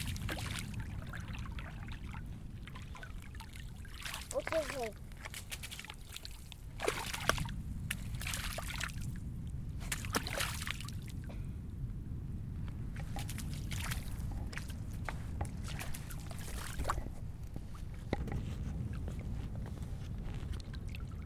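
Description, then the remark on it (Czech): Small water waves are being made, sloshing and lapping in repeated waves with gentle splashes and trickles, steady throughout; a brief word of speech appears once. “Mariánský příkop můžu udělat opravdu malý vlny. Menší vlny přes most.”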